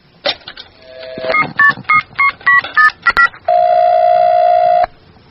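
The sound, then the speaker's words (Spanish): A rapid series of eight or so clear touch-tone beeps as a number is dialed, followed by a steady, loud electronic tone lasting over a second. No one speaks. “Nos costó bastante encontrar el teléfono de Moctezuma en la Wikipedia, pero ya lo logramos, comunicarnos con el más allá”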